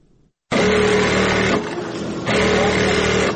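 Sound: electric sewing machines running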